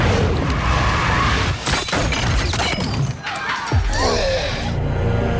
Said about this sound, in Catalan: Perdó, què ha passat amb aquests efectes? Hi ha hagut un tret. Jo no sé interpretar. Hi ha hagut un tret, sí. Ah, un tret.